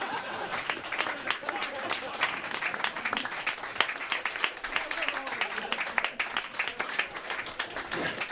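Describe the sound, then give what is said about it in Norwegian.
Sustained audience applause for Raymond Kvisvik on sound and Måns Ivar Mjelde on guitar fills the whole stretch, a dense, steady patter of many hands clapping at an even loudness with faint crowd murmur underneath. “En stor applaus til Raymond Kvisvik på lyd og Måns Ivar Mjelde på gitar.”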